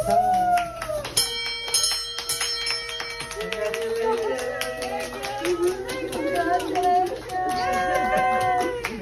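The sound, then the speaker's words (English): A good luck bell rings out with a bright, lingering metallic tone, struck three times in quick succession to mark the end of radiation treatment, then excited voices, cheering and a bit of clapping follow. “Yeah, you're going to read that out loud and then ring the bell three times.”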